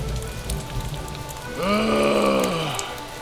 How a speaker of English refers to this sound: Really? Now you're going to rain?